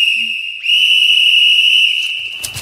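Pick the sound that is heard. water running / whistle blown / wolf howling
whistle blown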